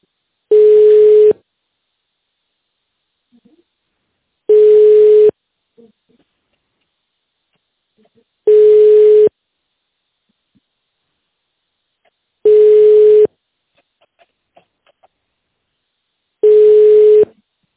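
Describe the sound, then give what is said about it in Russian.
A telephone ringback tone while calling the company Wintersteiger and waiting to be connected to the secretary: five steady, mid-pitched beeps, each about a second long, separated by long silent gaps in an even, unhurried rhythm. “По другим вопросам, пожалуйста, дождитесь соединения с секретарем.”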